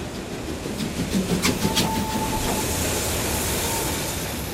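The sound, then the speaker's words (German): A steam locomotive pulls into a dimly lit station with a steady, heavy rumble, a few sharp metallic clanks near the start, and a faint thin whistle-like tone in the middle. “Der Stolz darüber erhöhte meine Körpertemperatur um mindestens weitere 2 Grad, und schon stampfte die Dampflok in den halbdunklen Bahnhof ein.”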